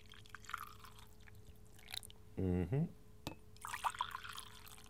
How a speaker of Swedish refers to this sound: Termosen har jag med. Ja. Och kaffe, så vi skruvar lite här. Dududut. Så där. Och häller upp.